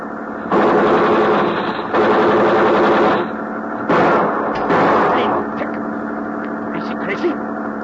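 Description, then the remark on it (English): Loud bursts of rapid gunfire, three sustained volleys of harsh crackling shots in quick succession, followed by a quieter rumbling stretch with a few scattered sharp pops. The shots are fired in front of a man to slow him down. “We fire in front of him.”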